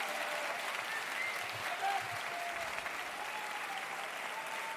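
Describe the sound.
Sustained audience applause fills the whole stretch, a dense, steady wash of many hands clapping at moderate distance, with faint voices and a few whistles rising above it.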